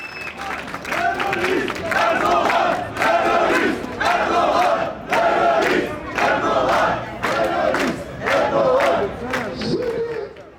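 A large crowd at a street demonstration on the Bahnhofsplatz in Bern, protesting the electoral authority's refusal to recognize Kurdish politician Abdullah Zeydan's election as mayor, chants loudly in unison, shouting a short slogan in steady, evenly spaced bursts roughly once per second, with brief dips between each shout.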